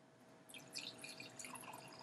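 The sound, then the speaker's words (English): Wine pours into a glass in a short trickle, with bright splashing and gurgling that rises and settles over about two seconds; no one speaks. “You don't want any more wine? Maybe a splash”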